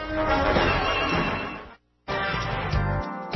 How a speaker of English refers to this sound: Tune in every evening to hear the thunderous crash as I pull the linchpin from the foundations of the House of the New World Order as it crashes down at 7 p.m. Monday through Friday with the conspiracy hunter right here at WGNU 920 a.m.